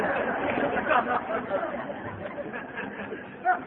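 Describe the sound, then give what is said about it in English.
Steady murmur of many overlapping voices at a banquet of about 1,090 people at the 22nd annual Las Vegas roundup, a continuous babble of crowd chatter with occasional small laughs rising out of the din. “But it's a good crowd. It's an up crowd.”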